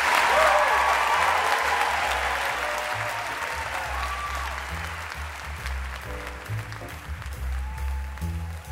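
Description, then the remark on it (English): A crowd bursts into loud, sustained applause for Ben & Jerry's founders Ben Cohen and Jerry Greenfield, a dense wash of clapping that holds for several seconds and eases slightly in volume toward the end. “Let's hear it for Ben and Jerry.”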